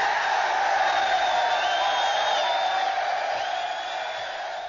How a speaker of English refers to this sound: So Craig Sager will be working with the ESPN team as Turner and ESPN hammer out an agreement to make that happen, and I just want to give them all a huge round of applause.